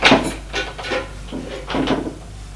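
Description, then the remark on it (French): A wooden bedroom door being opened, heard as a quick series of knocks, scrapes and rattles, with a sharp clack at the start and a louder scrape near the end, no voices. “La porte de la chambre de son mari.”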